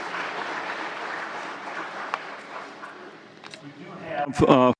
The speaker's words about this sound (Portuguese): Não vou ser detalhista, mas peço palmas, uma salva de palmas para todo o pessoal que está sempre trabalhando por trás de tudo isto.